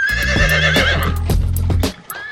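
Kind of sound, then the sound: animal, horse neighing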